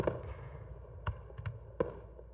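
Finale fireworks bursting, watched from the top floor of a high building, a handful of sharp booms popping at irregular intervals over a low, steady rumble, fairly faint overall with no voices.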